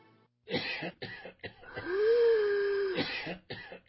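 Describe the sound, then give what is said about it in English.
Several harsh coughs in quick succession, then a drawn-out wheezing breath with a thin whistling tone, followed by more coughing. No one speaks. “Coughing, wheezing, and shortness of breath are all symptoms of COPD, chronic obstructive pulmonary disease.”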